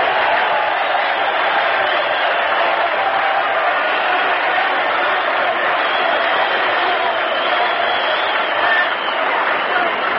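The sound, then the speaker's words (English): A large stadium crowd at an Army vs Notre Dame football game applauds steadily for about ten seconds for an injured player trotting off to the sideline, a loud, dense wash of clapping and crowd noise with no pause or break. “Listen to the hand he gets.”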